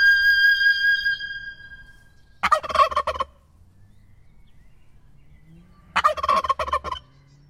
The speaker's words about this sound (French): Quand on voit ce dindon et quand on le compare au dindon auquel on est habitué, le dindon domestique, classique, le dindon domestique, il nous fait rien. Quand on voit ce dindon, il se passe quelque chose.